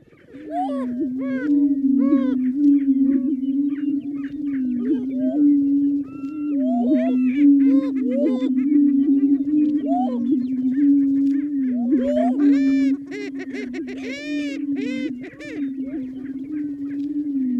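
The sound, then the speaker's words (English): Greater prairie chickens give a steady, hollow, low moaning drone that barely pauses, layered with frequent sharp clucks and cackling notes, loud throughout. “The greater prairie chicken makes an eerie, hollow, moaning sound, moaning and clucking at the same time.”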